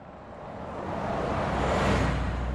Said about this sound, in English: People don't usually stop in Moneygall. The traffic just thunders through this small, impoverished town. It's one straight road lined with rather humble dwellings.